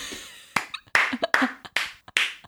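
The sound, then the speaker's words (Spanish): Five sharp hand claps in a steady, even rhythm, each a crisp, bright smack followed by a brief decay, with no one talking. “Quiero aplaudir.”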